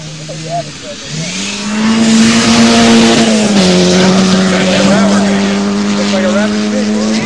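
A Volkswagen Rabbit car's engine revs up loudly as it races past, its droning pitch climbing after a second, then holding a sustained, throaty roar for several seconds.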